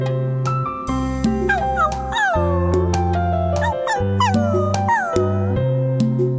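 A dog whimpers and howls in a string of drooping, falling whines, repeated every second or so, over steady low sustained tones that carry through the whole stretch.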